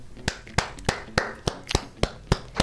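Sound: hand clapping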